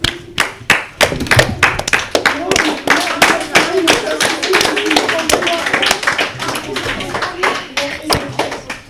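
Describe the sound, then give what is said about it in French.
A group of people applauds steadily for several seconds, a dense, continuous patter of many hands clapping, holding a fairly even loudness throughout, applauding a school class at the end of a quiz game. “On peut les applaudir.”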